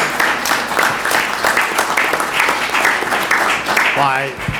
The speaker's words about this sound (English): And I think they're worthy of a round of applause at this stage and every stage.